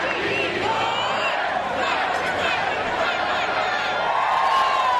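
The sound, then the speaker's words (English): Clemson fans in a stadium crowd roar steadily on a Thursday night during an ACC tournament game against NC State, a dense wall of many voices blending together with scattered shouts and yells rising out of the din, loud and unbroken for the whole stretch. “And the Clemson fans, who were outnumbered by NC State supporters on this Thursday night, now the ones making noise in the crowd.”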